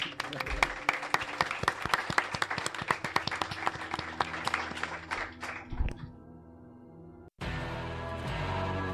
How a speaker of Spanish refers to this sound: Un aplauso.